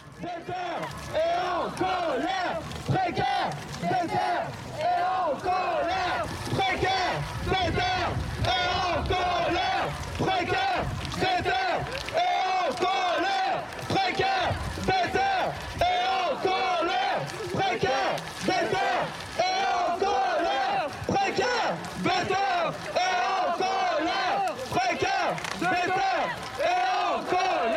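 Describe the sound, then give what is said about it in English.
A large crowd at a political protest demonstration chants and shouts together in a loud, steady, rhythmic roar, voices rising in repeated bursts with no pause across the whole stretch. “I have mixed recordings made during demonstrations, sound creation, and political reflections, all assembled to illustrate the bubbling political atmosphere and sonic environment of this period.”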